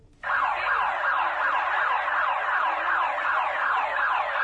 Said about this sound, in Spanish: En punto de la 1:05 p.m., este lunes 19 de septiembre sonó por segunda vez la alarma sísmica del Centro Universitario de Los Lagos, y no precisamente por el simulacro en conmemoración a los eventos sísmicos ocurridos en esta fecha